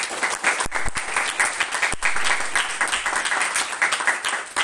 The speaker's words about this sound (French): Vous qui pouvez applaudir avec une telle attention et une telle concentration. Merci beaucoup.